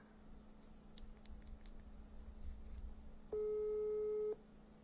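A phone's ringback tone: a single steady, mid-pitched beep about a second long, sounding loudly over quiet background hiss with a few faint clicks before it.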